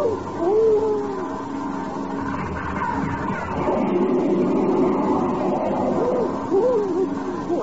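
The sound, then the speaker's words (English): Two Russian-built MiG jet fighters dive down and roar past as the first makes its pass, a steady, rushing wall of engine noise with wavering whine tones rising and falling through it for several seconds. No one speaks. “Yeah, two jet fighters, Russian-built MiGs.”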